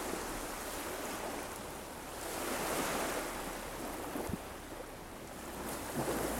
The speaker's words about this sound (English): Anyway, I'm going to stop this now and just listen to the waves for a bit longer.